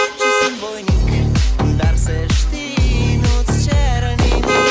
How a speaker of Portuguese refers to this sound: Se alguém buzinar hoje, eu bebo.